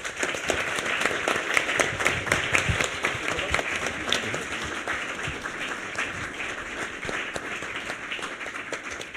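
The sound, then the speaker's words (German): Steady audience applause, a dense wash of many hands clapping at an even loudness for several seconds, with no voices standing out above it. “Dein Applaus.”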